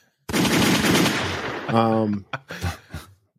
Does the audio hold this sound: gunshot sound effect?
yes